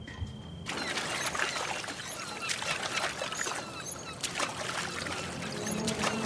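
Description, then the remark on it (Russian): Gentle sea water laps and splashes steadily on calm waves, with soft irregular sloshes of oars dipping as a small rowing boat, a man at the oars and a woman aboard, approaches a longboat lying at anchor; no voices. “Море. На тихих волнах, почти неподвижно, на якоре стоит баркас. К судну подплывает лодка.”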